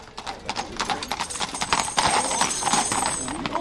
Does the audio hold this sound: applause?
no